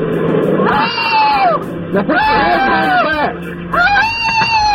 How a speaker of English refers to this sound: You're gonna be tased again. I'm gonna make that old broad screaming in pain my ringtone.